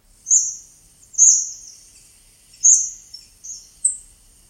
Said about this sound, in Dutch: Gezamenlijk vliegen de vogels op. Appelvinken zoeken zaden. Ze roepen naar elkaar.